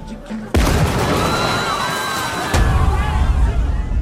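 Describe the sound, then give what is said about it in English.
A big explosion from a base charge on a timer erupts with a sudden loud blast, then a roaring, rumbling wash of noise with a second heavy surge of low rumble about two seconds later. “There you go, big explosion at the end of that, whatever that was.”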